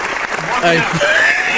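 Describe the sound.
A loud, steady burst of clapping on sports radio station 97.3 The Fan, for a man who got through the Big Five, fills the short moment, a dense crackling wash with a few voices calling out over it.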